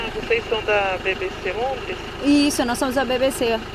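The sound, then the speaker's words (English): A car engine idles with a steady low rumble while several people talk over it, as guards with vests and guns search the car at a sunny gated compound about an hour outside Sao Paulo, Brazil. “Guards with vests and guns are searching our car at a sunny gated compound about an hour outside Sao Paulo”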